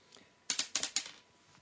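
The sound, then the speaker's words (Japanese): A single die is rolled during a game and clatters across a hard tabletop, a quick run of four or five sharp clicking bounces, then it settles into quiet. “でこれ1個で、じゃあサイコロ1個振ってください。”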